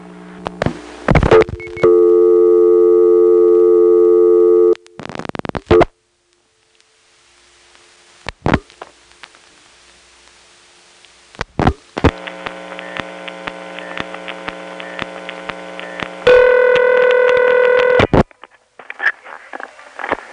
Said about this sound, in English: So anyway, let's make a token phone call to a number that begins with 6. I'll now demonstrate that 611 costs money.